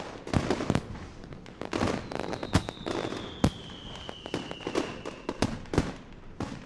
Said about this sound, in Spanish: Todos se divertían mucho con esta burla y, para concluir, prendieron fuego a la cola de Clavileño, que, llena de cohetes, voló y cayó en tierra con Don Quijote y Sancho.